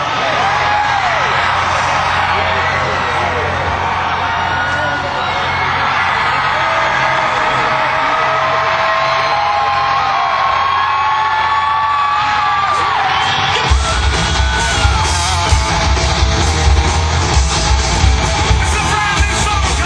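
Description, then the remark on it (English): A large concert crowd in Huntsville screams and yells continuously at full volume, a dense roar of whoops and cheers; partway through, heavy booming low rumble joins as the noise swells even louder. “The higher my hand goes up, the louder you scream, the harder we play.”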